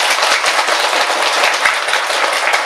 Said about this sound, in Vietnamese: Và nhân dịp này đó thì tất cả các quý Phật tử hãy cho một tràng vỗ tay thật lớn nào.